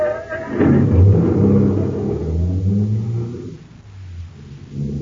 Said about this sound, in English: Start the car, Blake.